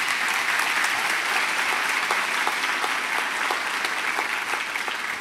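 applause

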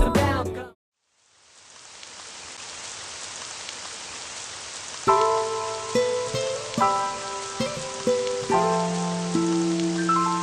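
rain falling

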